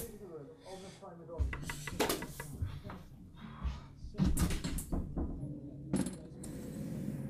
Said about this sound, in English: I'll be in touch maybe soon, but I've got to go. Someone's knocking at my door, yeah.